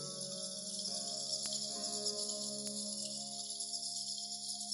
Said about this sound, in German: Es ist eher wie ein Summen. Und das ist einfach so. Das ist die Sprache der Fledermäuse, die du in dem Zeitraum, wenn du Fledermaus bist, einfach nur noch von dir geben kannst.